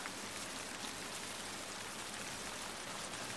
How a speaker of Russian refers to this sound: На улице пляшет дождик. Там тихо, темно и сыро.